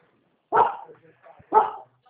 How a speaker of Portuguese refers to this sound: Ela tá latindo ali, ó.